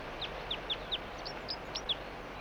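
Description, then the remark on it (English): A juvenile bird, bird 4-3, not a red male, responding to a decoy, gives a quick series of about eight short, high-pitched chirping calls in an uneven rhythm, heard over a steady background hiss with no talking. “It's recording the same bird. It's not a red male.”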